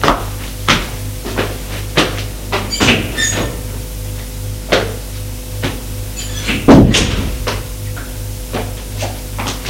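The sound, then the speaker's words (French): A bedroom door creaks open as a man leaves the room and later thuds shut, with scattered clicks and knocks of the handle and frame over a low steady hum, with no voices. “Il sort de la chambre.”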